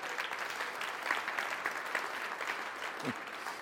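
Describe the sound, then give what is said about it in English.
Steady audience applause for the event team, a dense wash of many hands clapping at an even level throughout, with no voices standing out above it. “Big round of applause for our team as well.”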